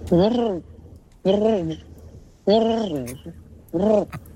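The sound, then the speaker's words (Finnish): A person imitates a cat-like animal with four drawn-out, rising-and-falling vocal calls, each about half a second long, evenly spaced and loud, with quiet pauses between them. “Siis ihan semmoinen, mutta tämä kuulosti vähän joltain eri elämää. Tämä on vähän kissa.”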